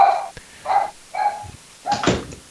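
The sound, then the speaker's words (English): A puppy gives four short, high-pitched yelping whines in quick succession, the last one louder and rougher, with no one talking over it. “I see you got a puppy to tend to there.”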